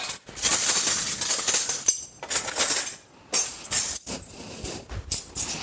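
Clattering bursts of dishes and utensils being handled as food and sauce are served, with scraping and clinking in uneven spurts separated by brief pauses, and no voices.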